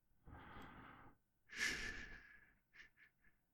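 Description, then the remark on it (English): Slow, deep breathing: a long soft inhale followed by a fuller, airy exhale that trails off into a few short, fading puffs of breath. “Focus on the sound of my breathing, the feeling of my chest rising and falling.”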